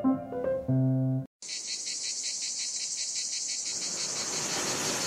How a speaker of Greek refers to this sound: Τα τζιτζίκια τραγουδούσαν με ρυθμό